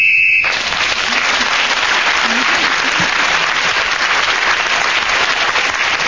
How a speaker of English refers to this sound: The whistle went as … got to that point, and he got an extra point for speaking when the whistle went.